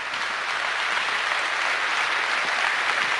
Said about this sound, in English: Is that like your applause there